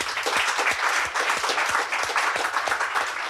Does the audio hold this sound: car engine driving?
no